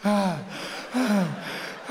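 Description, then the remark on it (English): A voice imitates James Bond panting in an alley: three loud, breathy, voiced gasps spaced about a second apart, rhythmic like someone out of breath. “It would end with James Bond panting in an alley.”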